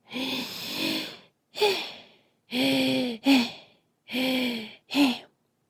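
Heavy, voiced panting of a woman climbing up to the upper floor: three rounds of a long labored breath followed by a short sharp gasp, loud and breathy with no talking around it.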